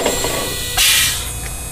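A hybrid car idles almost silently: a soft, steady low hum with a thin, high electric whine above it, and a short burst of airy hiss partway through. No one speaks.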